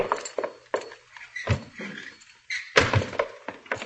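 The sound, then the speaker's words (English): A store's side door is opened and pulled shut as Hopalong Cassidy sneaks in, with a series of wooden thunks and rattling knocks spread over a few seconds and no one talking. “Well, if it ain't Hopalong Cassidy, and he comes sneaking in my side door.”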